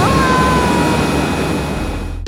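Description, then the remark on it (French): A loud, steady airplane engine roar fills the whole stretch, with a faint whining tone gliding slightly downward, before the noise cuts off abruptly at the end. “Bon, il est temps pour moi de vous laisser, car je dois absolument sauter de cet avion!”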